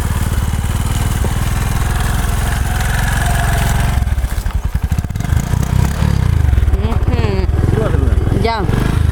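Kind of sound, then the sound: vehicle, motorcycle engine running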